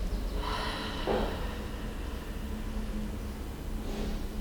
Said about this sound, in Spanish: Ahora concéntrate en tu respiración. Inhala por la nariz y exhala por la boca.